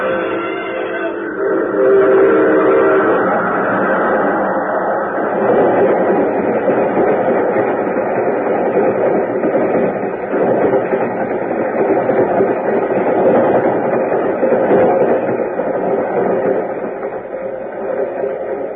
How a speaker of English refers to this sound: There's a train coming. There he goes. He's going to try to beat it.